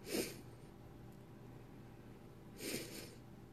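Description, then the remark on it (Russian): Two short, sharp nasal sniffs from a runny nose, spaced a couple of seconds apart with quiet background noise between them and no talking. “Да, самочувствие нормально, просто нос шмыгает, а еще голова постоянно наклонена, поэтому сопли пытаются вытекать в такой позиции.”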